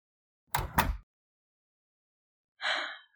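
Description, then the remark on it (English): An apartment door opens: two quick clunks like a latch and handle, then after a pause a brief, breathy creak or scrape as it swings. No one speaks. “I might leave the door open because I can be very forgetful.”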